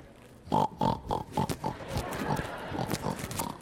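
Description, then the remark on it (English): A pig oinks in a quick run of five short, nasal grunts, followed by a steady stretch of softer snorting and snuffling, moderately loud. “Well, I haven't gotten to the pigs yet, oink.”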